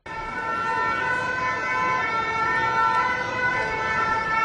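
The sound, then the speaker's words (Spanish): Ambulance sirens wail steadily over the constant roar of a busy city street in France during protests against pension reform, holding sustained tones at a fairly loud level with no one speaking. “Contenedores quemados, mobiliario urbano destrozado, sonido de ambulancias, es el escenario que se repite estos días en diferentes ciudades de Francia.”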